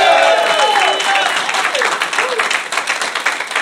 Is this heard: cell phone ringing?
no